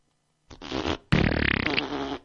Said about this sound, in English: We start singing show tunes, and I start going, Alexa, fart.